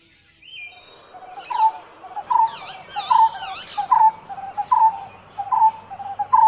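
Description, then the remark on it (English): A barbet gives a repetitive call, a steady series of mid-pitched hooting notes repeated about once every second, with fainter higher chirps woven above and no talking. “A lonely barbet, finishing his meal of the day, called out in a repetitive roar, asking the tailor to play.”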